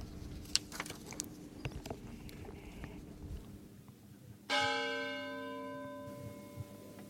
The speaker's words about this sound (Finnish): Konginkankaan kirkon kellot kutsuivat pyhäaamun Jumalan palvelukseen.